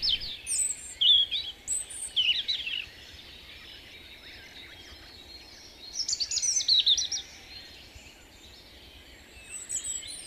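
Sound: european robin singing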